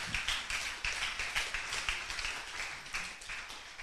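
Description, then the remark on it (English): A crowd of people clapping together, a dense patter of many hands with a rough, uneven rhythm of soft peaks, steady throughout with no voices. “It has ended with a clap.”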